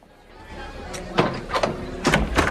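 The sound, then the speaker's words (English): A door handle turns with a few sharp metallic clicks, then a door creaks and swings open, the latch snapping clearly. “As she moves her hand towards the handle, it turns and the door opens.”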